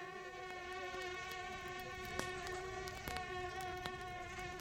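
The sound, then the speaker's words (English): Mosquitoes and black flies buzz without pause, several overlapping high-pitched whines wavering slightly in pitch, with faint ticks and taps scattered through. No one speaks. “First come the mosquitoes. But the real villainy is the black fly.”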